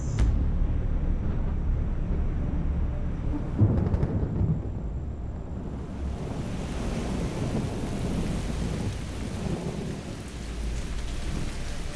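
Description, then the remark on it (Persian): Heavy tropical rain pours down steadily while deep thunder rolls and rumbles underneath, a loud, continuous storm with no voices. “اما شاید این اندازه خوبی نباشه برای اینکه در برابر طوفان گرمسیری دووم بیاره.”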